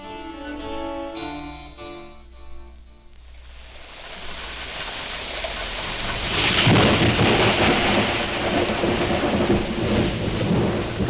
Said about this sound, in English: This is what the growers of wine in the Bordeaux area fear most: a sudden heavy storm in autumn, and especially if the rain turns to ice.